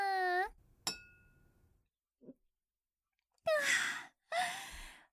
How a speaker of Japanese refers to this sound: じゃあとりあえず乾杯しよっか。今日もお疲れ様。